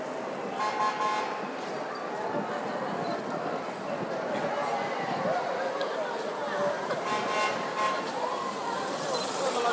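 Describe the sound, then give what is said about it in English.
A dense murmur of crowd chatter fills the scene, a steady wash of many indistinct voices that swells slightly toward the end, with faint honks from a police car beeping its horn. “So the crowd noise is rising a bit.”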